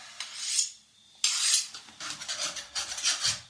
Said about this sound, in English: Carve me a slice of that cheese.